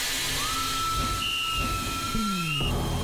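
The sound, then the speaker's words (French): A steam locomotive hisses steadily while a long, bright whistle sounds overhead, a second higher tone briefly joining it, before the whistle drops in pitch and cuts off abruptly. “À toute vapeur, Swiss Vapeur Park, le plus grand parc ferroviaire d'Europe, est ouvert tous les jours dès 10h et avec de nouveaux trains.”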